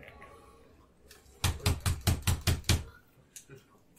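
impact, knocking

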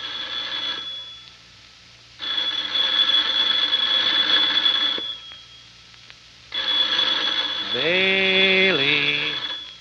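signal or alarm, telephone ringing

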